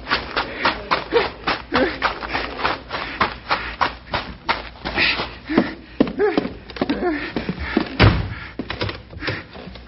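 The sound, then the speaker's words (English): Busy shuffling and clattering build up before a bank door slams shut and is locked with a heavy thud near the end, followed by a short rattle as it settles. “Locked in the bank.”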